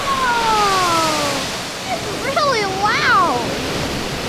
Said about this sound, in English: Oh, that water is getting really high. It's going to spill over. Oh, there it goes. Oh, wow.